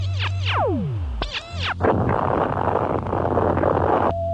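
sound effect, explosion

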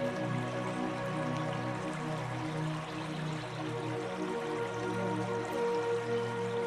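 nature, flowing river water

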